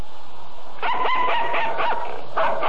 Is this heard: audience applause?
no